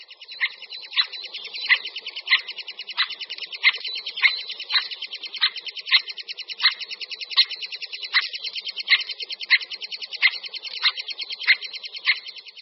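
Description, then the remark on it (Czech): Three-toed woodpecker nestlings keep up a continuous, high buzzing chorus begging for food, while the female's sharp alarm call cuts through it in loud, regular single notes about twice a second. “Na nahrávce uslyšíme, jak žadonění mláďat, tak varovný hlas samice.”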